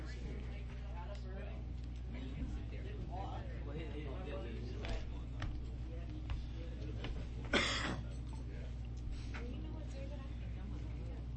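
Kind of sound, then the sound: human body sound, coughing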